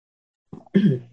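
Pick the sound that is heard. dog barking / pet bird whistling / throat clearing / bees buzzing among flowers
throat clearing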